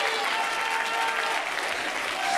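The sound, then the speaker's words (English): An audience claps their hands in praise to God, a dense, steady wash of applause with no clear individual claps standing out, loud and sustained throughout with faint crowd murmur beneath. “Clap your hands unto Him.”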